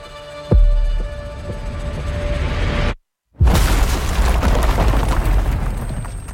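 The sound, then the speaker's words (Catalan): Deep, muffled booming thuds roll under a dense low rumble, heard through a dampening filter used in the trailer for the Marvel series Echo; the sound cuts out briefly partway through, then resumes just as heavy. “Echo, hem sentit, no, potser al tràiler aquesta espècie de filtre que esmorteeix una mica tot, i l'explicació és perquè Echo és la protagonista d'aquesta nova sèrie de”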